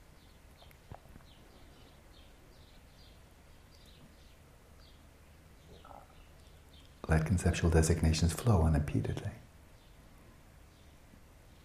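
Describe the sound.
Faint bird chirps repeat steadily outside in the background, thin and high, while a man speaks over them in a calm, measured voice.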